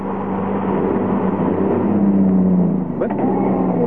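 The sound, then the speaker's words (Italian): A car engine drones and revs steadily, its pitch rising and straining without pulling away, with a brief clatter near the end. “Ma cos'ha sta macchina?”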